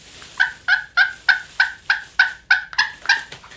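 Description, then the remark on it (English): A female turkey, a hen, yelps in a steady series of about ten short, raspy notes, evenly spaced, with no talking over them. “And on the other hand, we have the female turkey, referred to as a hen, and she has a milder call.”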